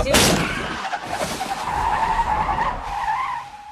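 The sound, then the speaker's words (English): A sharp impact bang as a deer hits the front of a car, followed by a long, loud tire screech as the car skids, the squeal wavering for several seconds before fading out. “They're having a conversation and laughing, and then all of a sudden a deer hits the front of the car.”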